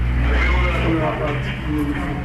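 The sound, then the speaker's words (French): Steady low engine rumble from a Haitian National Police car and two UN police vehicles idling in front of a police station in Port-au-Prince, Haiti, about to set off on patrol, with indistinct voices mixed in throughout. “Devant le commissariat de Martisson, un quartier défavorisé de Port-au-Prince, une voiture de la PNH s'apprête à partir en patrouille, suivie de deux véhicules de l'UNPOL.”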